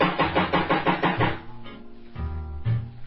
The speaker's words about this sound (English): Knock one more time to see what's going to happen here.